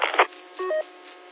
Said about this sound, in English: And yeah, I heard the Roger beep.